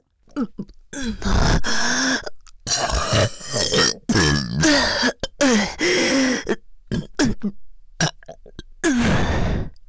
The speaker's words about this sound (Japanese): ねえ、やば、体内で変な化学反応起こってる。ゲップ止まんね。